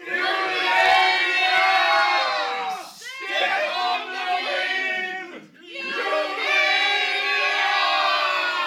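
Hares of the Long Patrol charge while shouting the war cry of the peddler's hares, a loud group of voices roaring a sustained battle cry in three long surges, each dipping briefly before the shouting swells again.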